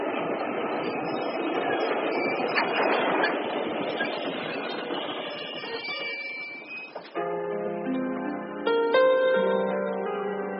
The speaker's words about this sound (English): And now let us stop these trains.